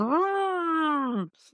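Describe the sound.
A voice imitates the fan of an old, extremely loud laptop with a sustained, droning moan that rises slightly, holds steady for over a second, then drops off, followed by a brief breathy hiss.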